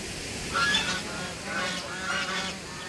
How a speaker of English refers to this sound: A waddle of geese sense something's not quite right. They head down to the water's edge, think better of it. With much vociferous protest, they turn away from the water in search of something rather more appetizing.